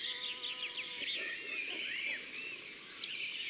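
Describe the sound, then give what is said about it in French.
A goldcrest sings a thin, very high-pitched song of rapid repeated notes, rising into a brisk flourish near the end, fairly quiet and with no one talking. “C'est un roitelet huppé qui a cette petite voix très aiguë.”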